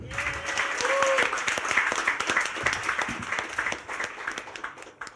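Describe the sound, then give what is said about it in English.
A live audience breaks into sustained applause for an author, dense overlapping claps for about five seconds, fairly loud and steady before tapering slightly at the end, with a brief whistle or cheer early on. “If I can get a little bit of audience participation as well, can I have a round of applause, please, once more,”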